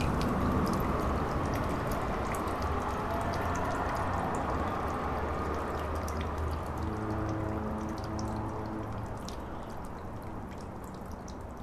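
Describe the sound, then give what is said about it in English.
A tap dripping, recorded by Mary Willis, with irregular small plinks over a steady, wash-like background of running water and a low hum. No one speaks. “That's the sound of a foghorn recorded by Ben Trefney and a dripping tap recorded by Mary Willis.”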